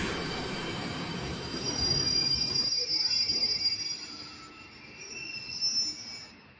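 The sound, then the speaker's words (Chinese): A tram's wheels squeal in a thin, high-pitched whine as it brakes and stops at a station platform, over a low rolling rumble that fades partway through while the shrill squeal lingers. “片刻，电车停在了站台上”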